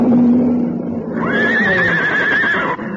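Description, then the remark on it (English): A horse whinnies loudly, a long quavering neigh that rises into a shrill, wavering cry before cutting off near the end, with no talking. “Get the horse away. They're after him.”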